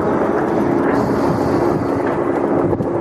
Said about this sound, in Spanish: Es el sonido de los helicópteros que han trabajado toda la mañana en la comarca de la Arlanza tratando de apagar el fuego que se declaró ayer en Quintanilla del Coco